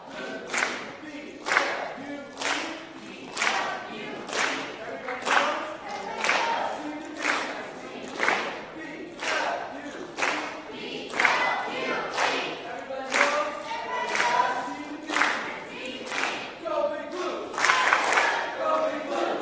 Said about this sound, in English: Okay. Let's do a cheer. Blue team, come up and give us a cheer.